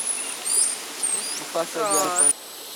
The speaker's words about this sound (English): Ah, there's a plague of locusts on its way. It's like the cicadas. Yeah. See, there's a bunch over there.